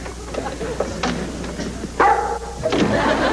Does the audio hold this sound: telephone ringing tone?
no